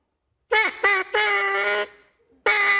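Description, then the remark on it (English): A duck call blown in four loud, nasal quacks: two short blasts, a long drawn-out one that trails off, then another starting after a pause. Harsh, with no talking. “Let me hear your duck call one more time, okay.”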